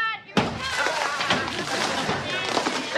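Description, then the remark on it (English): Snowballs thrown by a bunch of kids smack against the house with a sudden loud thud, followed by a scatter of muffled impacts and clatter while voices carry on underneath. “No, it's just a bunch of kids throwing snowballs.”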